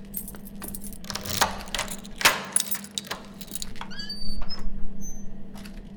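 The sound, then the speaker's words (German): A bunch of keys jangles and clinks as it is pulled out, with scattered metallic rattles and brief bright rings over a steady low hum, and no one speaking. “Komm, hol die Schlüssel raus.”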